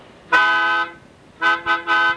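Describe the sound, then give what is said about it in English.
A loud, bright trumpet blast holds for about half a second, then after a pause three shorter blasts follow in quick succession, all on the same brassy pitch with no voices. “So may we hear the fifth trumpet of truth, please.”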